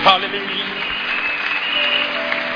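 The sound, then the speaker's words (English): A church audience claps steadily together for the Lord, a dense, continuous wash of many hands at an even level, with faint voices and sustained tones running underneath. “Clap your hands for the Lord, everybody.”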